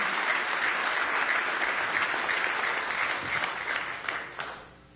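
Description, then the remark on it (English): A church audience claps steadily for visitors at a morning service in a dense, sustained round of applause that holds for several seconds, then tapers off with a few final claps before fading out. “Let's give all of our visitors a nice hand this morning.”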